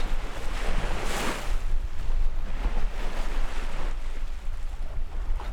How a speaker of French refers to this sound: Il y a une belle ambiance et de belles vagues, d'où mon écriture penchée. Mais là, tu vois, je suis près du sol, de l'eau. Tenez-vous. Eh, manège gratuit, les filles. Le bateau est littéralement vertical.